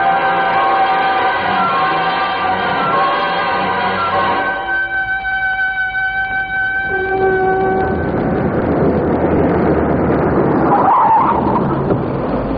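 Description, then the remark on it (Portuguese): A school bus pulls up, its brakes squealing in long, steady whining tones before giving way to a loud rumbling engine and a short burst of air hiss as it halts. “o ônibus chegou.”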